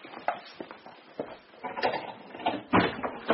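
A padlock rattles and clicks open with a key, followed by the scraping, clunking creak of a heavy wooden workshop door being pushed open, a busy run of handling noises with no one talking.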